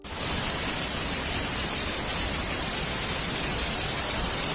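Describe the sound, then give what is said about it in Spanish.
Heavy rain pours down in Brazil in a dense, unbroken roar, loud and holding steady for the whole stretch with no voices or other sounds breaking through; the rains caused severe flooding. “Esos mismos meses ocurría esto en Brasil.”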